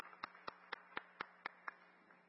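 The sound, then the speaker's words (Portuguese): Applause heard as about eight sharp, evenly spaced claps in a steady rhythm, fairly quiet over a constant low background hum, with no voices. The applause is for all the app-based ride drivers. “E eu gostaria de pedir uma salva de palmas para todos os motoristas de aplicativos.”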